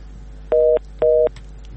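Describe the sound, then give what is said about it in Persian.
Two short, steady electronic beeps sound in even succession over a faint line hiss, a telephone tone after a listener's call into a Radio Azadi phone-in show was cut off. “متاسفانه که تماسشان قطع شد.”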